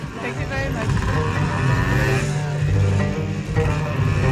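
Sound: motorcycle engine revving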